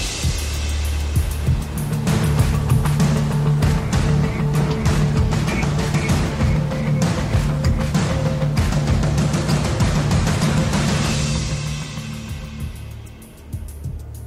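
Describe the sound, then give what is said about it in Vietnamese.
Mournful wind over the sea at night howls in a steady, dense roar with low moaning undertones, holding loud for about twelve seconds before easing away at the end. No voices are heard. “Tiếng gió u u hiu hắt vọng về.”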